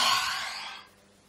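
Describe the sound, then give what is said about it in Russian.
A single deep, breathy exhale during a guided breathing practice, fairly loud at first, then trailing off into quiet after under a second. No talking. “Итак, делаем глубокий вдох и с выдохом.”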